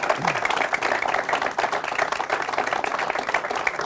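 A burst of steady hand clapping, dense and continuous like several people applauding at once, with a crisp, bright crackle that stays fairly loud for the whole few seconds.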